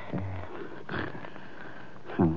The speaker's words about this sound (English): So what do we do, sit here and listen to him snore?